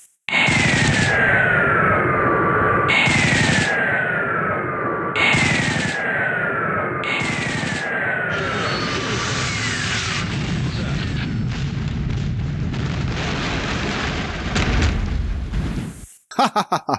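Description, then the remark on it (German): Video game attack by a Thunderhawk gunship tearing apart Ork hordes: four falling whistle-like shrieks repeat every couple of seconds over a dense, roaring barrage of booming explosions and rapid fire that stays loud, then cuts off abruptly. “Also habe ich einfach mal aufgenommen, wie so ein Thunderhawk so Orkhorden zerlegt.”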